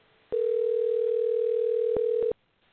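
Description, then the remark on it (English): A phone line rings once on an internet call: one steady, mid-pitched electronic tone holds for about two seconds, with faint clicks near its end, then cuts off to near silence. No one speaks. “Oh, it's still ringing.”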